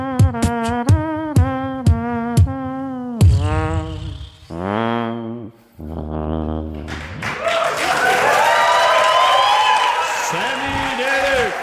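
A live crowd bursts into sustained applause and cheering after some sung, musical phrases at an MTV Unplugged session, the clapping swelling loud and dense and continuing through the end.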